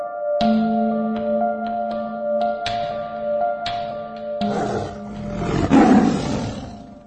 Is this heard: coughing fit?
no